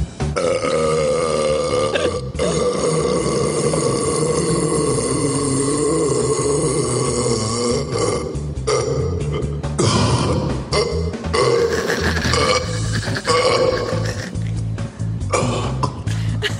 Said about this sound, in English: That was really, really impressive, man. It's really how you burp right there.